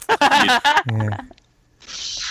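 A toilet flush: a short burst of voice-like tones and a low hum, then a brief pause before a loud, steady rush of water noise starts.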